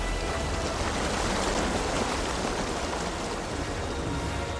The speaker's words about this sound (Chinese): 这个时候屋外暴风雨总是继续。